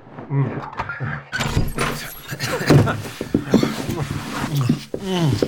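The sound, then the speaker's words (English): Keys rattle and a lock clicks before a room door swings open, the bright clattering bursts mixed in with people talking throughout. “Let me open the door.”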